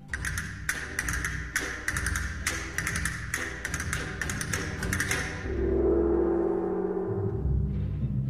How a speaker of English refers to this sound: Castanets and gong.